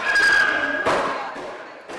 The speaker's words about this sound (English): It's Friday morning at the Carlington Community Health Center in Ottawa. Kids are everywhere, climbing, banging on stuff, making music. There are about 20 preschoolers in all, here with their moms or grandmothers.